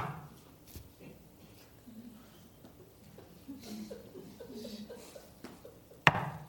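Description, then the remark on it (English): One sharp, loud knock on a door near the end, after a couple of faint taps over a low background murmur, demonstrating knocking at someone's house. “I love that language of knocking.”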